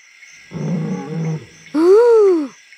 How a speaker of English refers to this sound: Listen! What's that? Five. Oh no! It's a big lion!